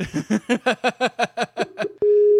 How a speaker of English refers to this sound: And everybody gets to hear the Skype ringtone. Yay!